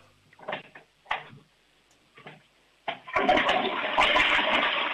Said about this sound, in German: Das ist eine laute Klospülung. Also ich würde sagen, da kann man schon ordentlich hinein. Da ist trotzdem alles weggespült.